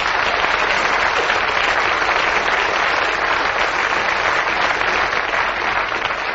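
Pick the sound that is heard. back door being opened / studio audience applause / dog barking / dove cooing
studio audience applause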